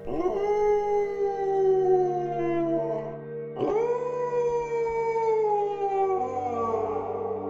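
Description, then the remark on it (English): Two long, eerie, ghoulish howls, loud, each wavering and sliding slowly downward in pitch; the first lasts about three seconds, then a second one rises up and drags on to the end. “isn't a ghost, but does convey most of his edits through ghoulish howling noises.”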